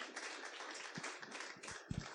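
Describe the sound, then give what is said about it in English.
A church audience claps together to welcome a guest preacher, a steady, dense patter of many hands, fairly soft throughout, with no voices heard. “So without much ado, I would love church with a clap to welcome”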